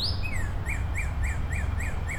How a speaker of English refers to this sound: I can hear cardinals calling at me. There's a lot of birds in here. I can still hear that male cardinal. I can't see him anywhere, but I can hear him.